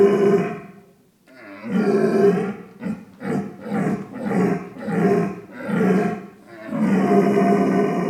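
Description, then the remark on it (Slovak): At a red deer calling competition in Slovakia's central Považie region, a man bellows a deep, drawn-out imitation of an old or young searching red deer stag's roar, starting with a long call, then a series of rhythmic grunting bursts, and ending with another loud, sustained roar. “Tam si v podstate súťažiaci si zvolil disciplínu hlas starého alebo mladého hľadajúceho jelenia.”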